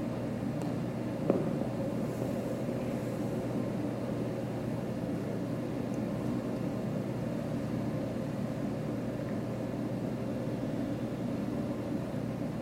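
An air vent runs with a steady, unbroken whoosh and low hum, even in loudness throughout, with a single faint click early on and no voices.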